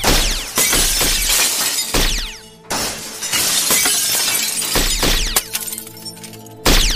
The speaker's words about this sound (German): Schießt auf die Deckenfenster, dann regnet es Scherben auf sie.